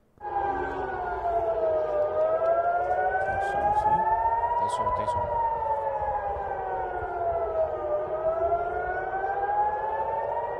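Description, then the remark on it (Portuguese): An air raid siren in Israel during an attack by Iran wails continuously, its pitch slowly rising and falling in long sweeps, loud and steady over a low rumbling background, with a few faint clicks. “Sirene ligada.”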